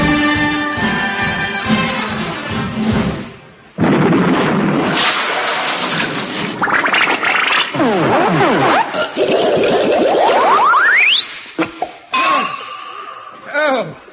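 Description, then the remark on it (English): A sudden, loud comedy explosion bursts in partway through, followed by a rumbling, clattering aftermath, a rising whistle, and audience laughter underneath. “Oh, that was the biggest explosion of the series.”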